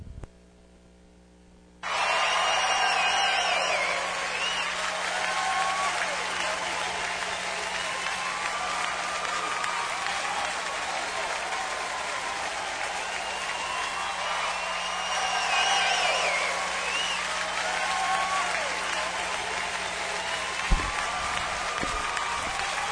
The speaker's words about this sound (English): Man, that's some hellacious applause there, boy.